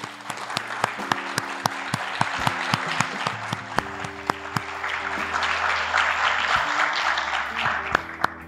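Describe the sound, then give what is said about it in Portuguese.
An audience of listeners applauds steadily for several seconds, honouring the more than 3,000 listeners who took part in the book project Os 500 Maiores Álbuns Brasileiros de Todos os Tempos. It is a dense, sustained patter of many hands clapping, with a few sharper claps standing out, over a low continuous hum. “Eu queria aproveitar esses ouvintes que estão aqui para puxar uma salva de palmas para todos os mais de 3 mil ouvintes que se engajaram no projeto do livro Os 500 Maiores Álbuns Brasileiros de Todos os Tempos.”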